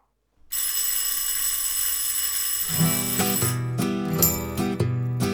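A loud electric school bell rings continuously with a harsh metallic clang, and after a couple of seconds a rhythmic musical beat with pulsing bass joins in underneath it.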